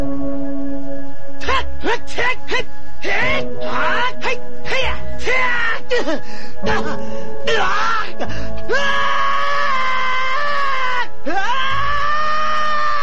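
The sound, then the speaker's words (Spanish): A rapid string of short, pained yelps and grunts from one voice, the character Link, loud and breathy, ending in a long, sustained strained cry that wavers in pitch before a final sharp gasp. “el guión de Link va a ser como uy, uf, ah, ouch, oh. Porque era lo único que decía, puros gritos.”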